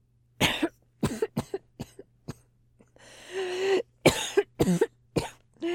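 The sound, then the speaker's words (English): A harsh, body-racking coughing fit from a scrawny 15-year-old boy, starting from a sigh: a rapid string of explosive coughs, a long raspy, wheezing breath in the middle, then another burst of hacking coughs. No one speaks. “sighs, and it turns into a body-racking cough.”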